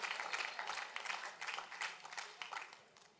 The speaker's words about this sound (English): And all the minimalists are clapping right now.